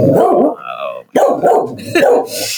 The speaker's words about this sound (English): sorry, dog. Stop. There's nothing there.